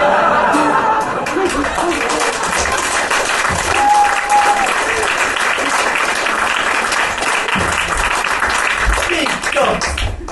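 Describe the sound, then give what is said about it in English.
Sustained audience applause for Margaret Thatcher, a dense, steady wash of many hands clapping for the full length, loud and even, with faint crowd voices mixed in underneath. “I love the bit when people applaud Margaret Thatcher.”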